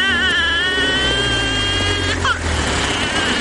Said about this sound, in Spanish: Un coche para a su lado.